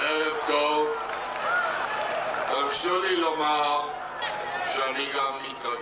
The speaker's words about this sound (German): Sichtlich bewegt spricht Rabin zu der jubelnden Menge.